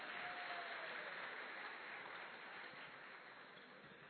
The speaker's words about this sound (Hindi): इन सबका और जोरदार तालियों से स्वागत करें।